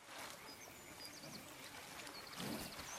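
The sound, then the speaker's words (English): Two deer wade through river water, with steady sloshing and a louder splash near the end, while small birds chirp faintly in the background. “Now they move off again through the water.”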